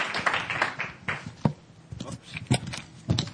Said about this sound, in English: A big round of applause for Mr. Christophe.